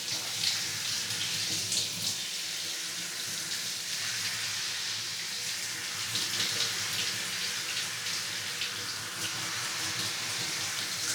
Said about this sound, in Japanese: 目に水と泡が入らないように気をつけてね。湯加減はどうかな。冷たくない？ちょうどいい？それじゃあこのままシャワシャワっといくね。